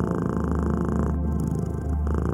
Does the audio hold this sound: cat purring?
yes